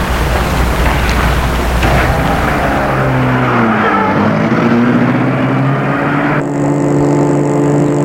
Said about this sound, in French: Il l'amène à une voiture qui vient de s'acheter. Il la fait entrer et entre lui-même, puis met la voiture en route.